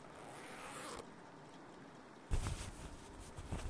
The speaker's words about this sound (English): Ah, you're having some trouble with the zipper, I see. Here, just let me...